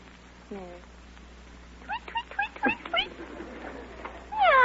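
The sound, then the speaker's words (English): As a forfeit in a quiz, a person's voice imitates a cat's meow, then a quick series of high chirpy canary tweets, before launching into another loud, drawn-out meow. “you must give sound effects to indicate the titles of the following pictures. Now, the first of all is Cat and Canary.”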